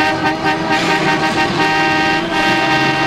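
Loud, steady car horns blare and overlap over a dense wash of city traffic, the honking sustained for the whole stretch with no pauses and no voices.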